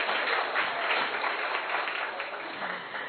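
An audience applauds in a steady, dense wash of many hands clapping, holding an even loudness for the whole few seconds with no one speaking over it.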